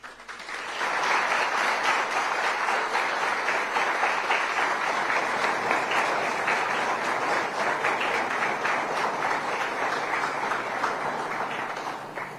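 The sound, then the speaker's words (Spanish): A large crowd at a school ceremony in Argentina opening the 2024 school year applauds the ceremonial flags, a dense wash of many hands clapping that swells in after a moment and holds at an even, fairly loud level for about eleven seconds before easing slightly. “Agradecemos su presencia con un respetuoso aplauso.”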